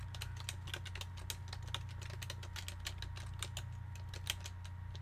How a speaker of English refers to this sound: Excuse me, I'm typing text.